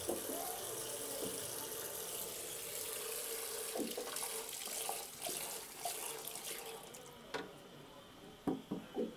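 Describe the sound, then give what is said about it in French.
Steady flowing river water rushes and gurgles throughout, with a few brief splashing bursts toward the end; no one speaks. “Retour à la rivière.”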